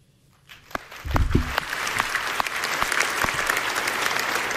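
Scattered claps start after a quiet moment and settle into a steady, moderate patter of applause from an audience at the end of a presentation on speech-recognition transcription, modest rather than enthusiastic, with a few thumps early on and no talking.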